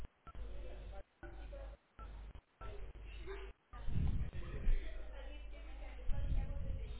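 A quick run of about five touch-tone keypad beeps as the first five characters of a request ID, 26804, are entered on a phone for an automated system, each a short steady electronic tone with brief gaps between, followed by several seconds of muffled, rumbling background noise.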